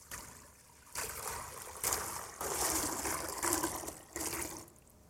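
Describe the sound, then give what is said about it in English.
Water pours into a bowl in several bursts, a broad hissing splash that swells and stops repeatedly, with brief quieter gaps between pours and no talking. “Here is a bowl I'm going to put ordinary water in.”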